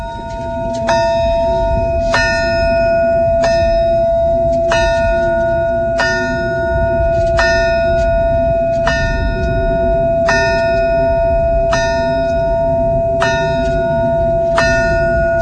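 The Chernobyl memorial bell tolls about a dozen times at a slow, steady pace, each ringing strike lingering into the next, over a constant low rumbling background like wind.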